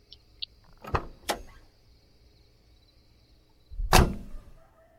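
door being unlocked

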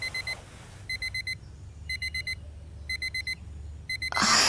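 phone alarm going off

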